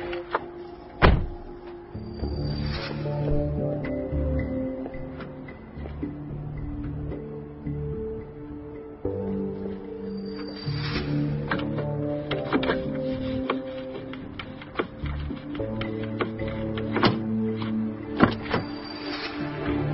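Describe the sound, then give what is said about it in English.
A woman works a slim jim inside a car door to break into the car, producing scattered metallic clicks, scrapes and thunks from the lock mechanism, fairly loud over a steady tonal background hum. “I saw this woman breaking into your car in one of my monitors.”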